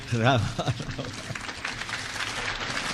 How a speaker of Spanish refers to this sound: Fuerte el aplauso a Jesucristo, que Él se lo merece. Fuerte el aplauso, Señor. Voimakkaat aplodit Jeesukselle. Hän ansaitsee.